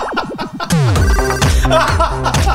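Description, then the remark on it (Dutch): A phone rings loudly with an electronic ringtone: a warbling trill that swoops down into a dense, buzzing jingle, playing continuously without any voices. “Zet die telefoon nou een keer uit.”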